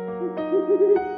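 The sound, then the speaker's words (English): An owl named Polly hooting: a low, wavering tone that warbles up and down over a steady humming drone, with two soft breathy onsets, moderately loud and with no talking. “Hey, it's Polly, our owl. She's flying in with the fun facts.”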